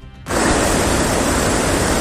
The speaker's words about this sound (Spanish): Y como están escuchando, bajaba el Ebro a su paso por Logroño esta mañana.